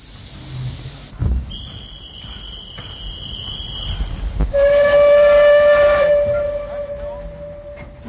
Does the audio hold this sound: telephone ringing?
no